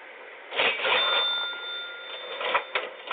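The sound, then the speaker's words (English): A cash register rings open: a bright, sustained bell tone with clattering mechanical bursts at the start and again near the end, fairly loud, with no voices. “I hear cash registers opening and closing.”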